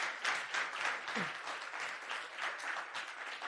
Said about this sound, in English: And everyone that helped, let's give this guy a round of applause and all these guys.